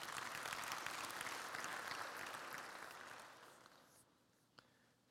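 audience clapping

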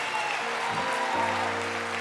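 audience clapping

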